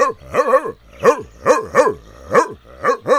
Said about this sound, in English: No, I'm just barking. I'm a dog, that's what I do. Well, that's nifty and all, but a little loud.